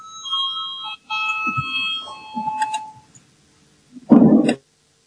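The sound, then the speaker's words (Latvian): An electronic bell rings in a parliament to call a vote, with bright sustained tones, pausing briefly once before stopping, followed by a short pause and a sharp, louder burst of noise near the end. “Lūdzu zvanu, balsosim par 14. juridiskā biroja priekšlikumu.”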